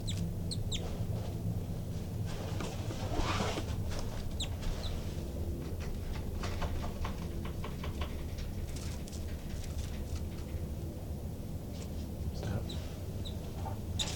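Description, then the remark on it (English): Birds disturbed near their nest, where two new babies have just popped out, give a steady run of short, sharp agitated calls and clucking notes, repeating irregularly over a constant low rumble, with no one speaking. “I disturbed the birds quite a bit, and the two new babies popped out of the nest, and they're climbing the screen now.”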